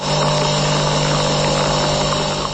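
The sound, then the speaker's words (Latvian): Statoil's previous coffee vending machine runs with a steady, loud mechanical whirr and a low electrical hum, holding an even level for the whole stretch with no pauses and no voices. “Tas skan mūsu iepriekšējais kafijas automāts.”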